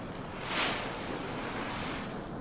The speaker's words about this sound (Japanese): あ、突然、お、全く異様な波のうねりが。そして海の上一面、水泡が吹き出しております。お、数十メートル彼方に突如海水が湧き出しました。